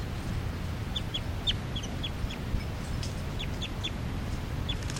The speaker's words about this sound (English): And the new juveniles are giving calls here, flight calls.